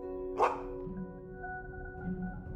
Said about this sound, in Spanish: Pronto, en la tierra lejana, comienzas a escuchar unos ladridos.